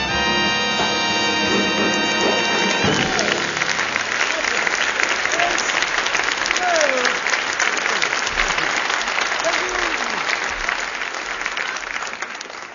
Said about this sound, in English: Stop that anti-sequel applause.